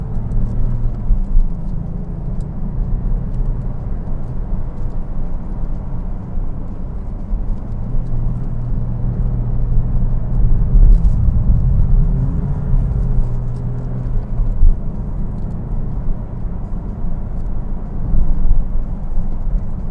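A car engine drones steadily on a Christmas Day run up Snake Hill, a dense low rumble with shifting tones as it climbs and works through gears, heard from inside with no talking.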